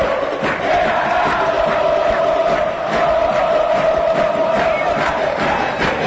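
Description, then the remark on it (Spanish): A huge stadium crowd roars without pause after Ale Silva's penalty goal puts Olimpia ahead 1-0, a dense wall of cheering and shouting that stays loud for about six seconds, with a sustained chanted tone running through it. “Pegándole con el poste izquierdo, con Olimpia para uno, lo hizo Ale, Ale, Ale Silva de penal, el grito flanqueado por la Cina, por la punta y por el gol.”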